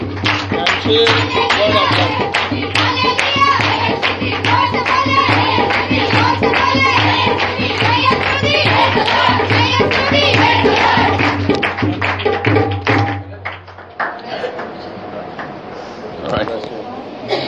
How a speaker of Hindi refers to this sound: Hallelujah, हम आपकी भरपूर तालियों में ब्रदर ब्रूनो को और भाई सैमुअल को स्टेज पर वेलकम करते हैं।